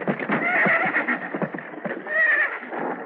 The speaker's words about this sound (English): Keep after those horses.